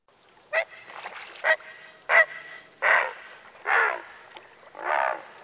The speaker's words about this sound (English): Here is the great blue heron's loud squawk.